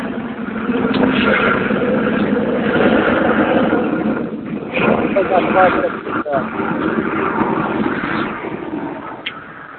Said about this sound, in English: I see somebody's plane is landing. Anybody have a flight?